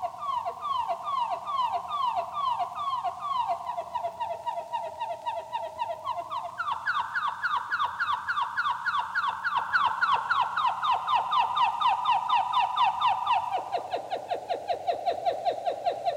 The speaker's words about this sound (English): How would the sound of these notes be changed if we brought them down another octave? The quality should be much fuller, much richer. Here are the trills 2 octaves lower than the canary sings them.